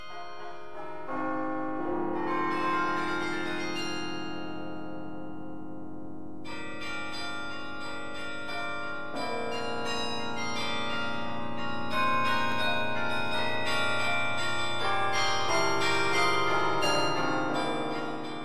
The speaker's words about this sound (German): da spielt der Karioneur Jingle Bells